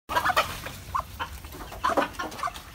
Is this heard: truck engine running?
no